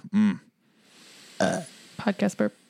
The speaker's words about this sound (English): Podcast burp.